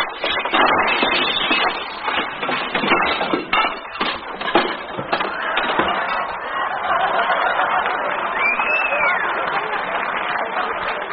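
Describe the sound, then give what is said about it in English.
A stack of dishes being washed in a restaurant kitchen crashes, a long, loud clattering of dishes smashing and tumbling for several seconds, then a steadier murmuring wash of sound with a brief rising whistle near the end. “Wait until Mr. Melonhead sees all those broken dishes.”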